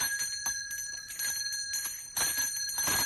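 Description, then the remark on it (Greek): A school bell rings continuously as the first bell, a bright metallic clanging with a steady high ringing tone, fairly loud, growing slightly stronger toward the end with no voices. “Μαμά, το πρώτο κουδούνι.”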